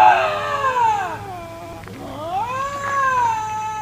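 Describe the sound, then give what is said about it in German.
Two long, wavering yowls from a lynx in Canada, each sliding down then rising again, loud with rich harmonics, separated by a brief pause; no talking. “Ja, ich glaube, zwei Tiere in Kanada. Der Luchs.”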